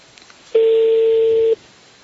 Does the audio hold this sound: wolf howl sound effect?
no